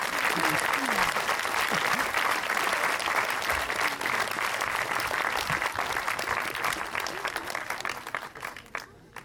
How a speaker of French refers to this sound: Merci ! On peut les applaudir.